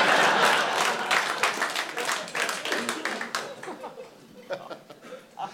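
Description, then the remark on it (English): An audience breaks into a loud burst of clapping that gradually thins out into scattered, uneven claps, with a few chuckles mixed in. “Don't clap for that one.”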